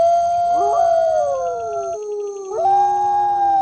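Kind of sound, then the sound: animal, wolves howling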